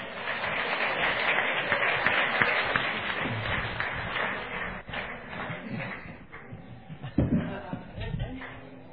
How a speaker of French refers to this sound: Would you come up here? Let's give him a real good round of applause. On va l'applaudir.